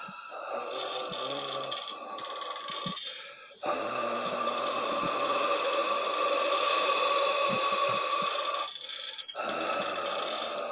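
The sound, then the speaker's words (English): Deep, ghostly breathing drawn out in long, loud, rasping breaths with a low hollow drone, broken by brief pauses between them. No voices are heard. “You begin to feel the vapour of a haunting breath of a ghost upon your neck discompose as the deep breathing gets even louder in sound.”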